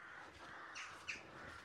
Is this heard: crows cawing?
yes